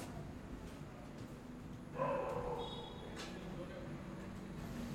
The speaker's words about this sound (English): Dogs barking outside.